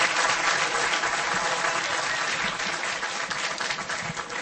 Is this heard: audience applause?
yes